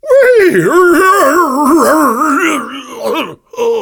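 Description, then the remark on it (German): A human voice imitates the whinny of a horse named Ferdinand, a loud, wavering high-pitched wail that trembles up and down for several seconds before breaking into short, breathy snorting bursts. “Ferdinands Wirren klang plötzlich so seltsam, eher wie ein Schnaufen.”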